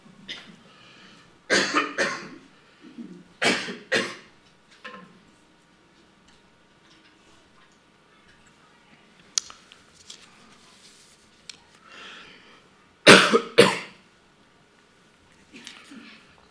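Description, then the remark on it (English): A speaker pauses to drink water and coughs a few times in short bursts, pairs of sharp coughs separated by long quiet pauses with faint small clicks and movement, and one last loud double cough near the end. “My apology, I need a touch of water.”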